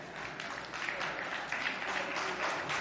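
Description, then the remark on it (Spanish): A crowd bursts into steady applause, dense clapping at a fairly even level for a few seconds with no voices standing out above it. “Un aplauso por acá.”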